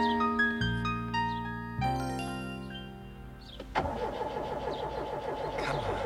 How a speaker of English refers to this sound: I'm trying, Robin, but the car won't start. Oh, I'll bet it's the distributor again. Come on, baby, come on. I should have taken it into the shop weeks ago.